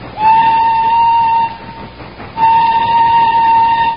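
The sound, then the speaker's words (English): A steam train chugging slowly up the side of a mountain sounds two long, steady whistle blasts separated by a short gap, over a continuous low rumble of the engine. It is loud, with no voices. “And so, as the train chugs slowly up the side of the mountain, we find in the engine the driver and fireman hard at work.”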